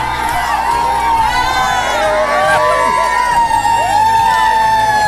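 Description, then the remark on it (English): A crowd of about 200 children at an orphanage shouting and cheering, a dense, loud wall of high-pitched voices with rising and falling whoops layered over each other, continuous throughout. “Can you hear the kids? Look at this crowd of children.”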